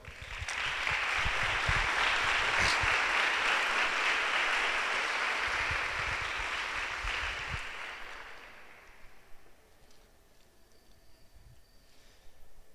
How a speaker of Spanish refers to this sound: Damos un aplauso a Dios.